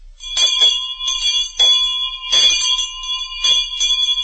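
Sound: bell ringing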